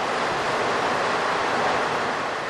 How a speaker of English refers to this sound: Her grin turns to a smile as a rush of wind begins to pick up through the car.